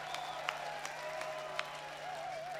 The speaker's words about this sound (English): Hi, so these are the survivors after the 3 days, yeah? Congratulations to you all. We applaud you.